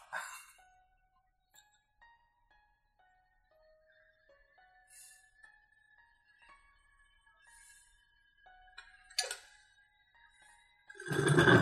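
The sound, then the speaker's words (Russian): Liquid being drawn back down through a glass vacuum brewer after the manual gas burner is switched off: quiet, sustained glassy tones and faint gurgles, then a sharp bubbling burst and a louder sucking whoosh at the end, with no talking. “Он тоже назад засасывается.”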